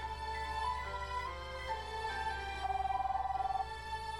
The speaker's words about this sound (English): After some time, the ringing stops and I hear the voice of a woman.